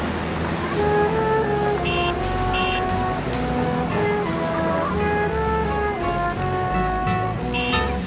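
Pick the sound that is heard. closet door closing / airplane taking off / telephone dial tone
airplane taking off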